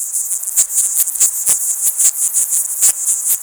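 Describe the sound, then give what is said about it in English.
Insects recorded in nature chirp in a dense, continuous high-pitched buzz, broken by frequent sharp clicks and ticks scattered irregularly throughout, with no voices present. “He adds that recording the bugs in nature could also help biologists track the health and biodiversity of ecosystems.”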